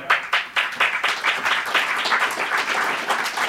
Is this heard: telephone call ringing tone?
no